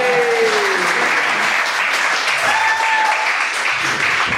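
A crowd applauds steadily for several seconds, a dense, loud wash of clapping with a few faint whistles or cheers rising over it, and no one speaking.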